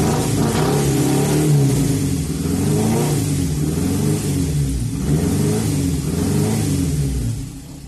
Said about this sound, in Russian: Чтобы добавить перца, я добавил звук стокового мотора своей личной Бьянки 74 года, ибо мы с ней ровесники.